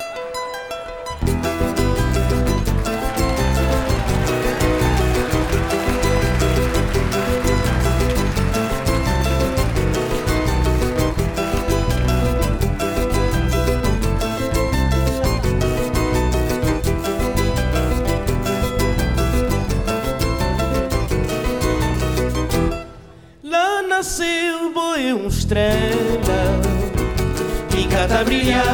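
A live concert performance of a sung song: a full band plays steadily and loudly throughout, with a brief break near the end before the music and voice come back in.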